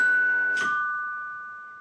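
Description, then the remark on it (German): A two-note ding-dong chime rings out clearly, a higher tone followed by a lower one, both lingering and slowly fading. No one speaks. “Ding Dong!”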